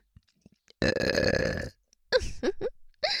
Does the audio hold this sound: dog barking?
no